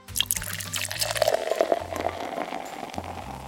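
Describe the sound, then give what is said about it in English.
Vinegar mixed with red or orange food coloring pours steadily through a funnel into the top of a volcano for a few seconds, a continuous gurgling, splashing trickle with no voices. “Then you add the vinegar and food coloring mix into the top of the volcano. I like to use a funnel when I pour it in so I don't make a mess.”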